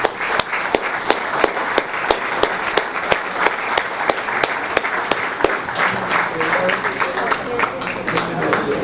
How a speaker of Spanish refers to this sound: hoy cumplen ustedes 17 años de existencia. Yo ruego que le den en la persona de su magistrado presidente un aplauso por ese logro.